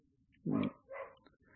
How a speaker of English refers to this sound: And the dog. I hear Miss Sadie. Yeah, she's barking.